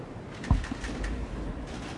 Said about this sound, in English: You hear that? They're still knocking. I'm watching. How long are they going to make him stand out there?